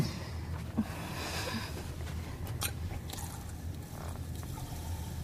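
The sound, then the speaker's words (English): Water trickles into a glass in a thin, uneven stream from a tap with low water pressure, poured for someone to drink, steady for several seconds, with faint ringing tones and no voices. “Water pressure's down. Here, drink this.”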